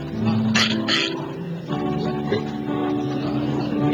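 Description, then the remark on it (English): A child's voice imitates a pig on request, making a couple of quick, breathy snorting grunts early on, followed by softer voiced oinking sounds, against a steady background hum. “A pig? Do me a pig.”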